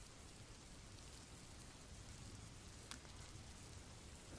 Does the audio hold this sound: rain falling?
yes